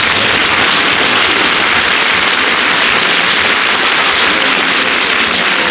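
A crowd applauds steadily for actor and umpire Gil Stratton, a dense, loud wash of clapping that holds at an even level for several seconds with no voices heard over it.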